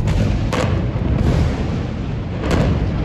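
Loud, dense barrage of gunfire and rocket fire during the Hamas surprise attack on Israel on October 7th, a continuous roaring rumble broken by a few sharp blasts roughly every second, with no voices.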